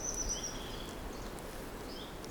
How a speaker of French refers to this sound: Et ici, là, puisque tu viens de Touraine, et que je suppose c'est la première fois que tu viens dans nos régions ariégeoises, quel son qui émane de la forêt de marque? Bah, particulièrement les oiseaux là, qu'on entend.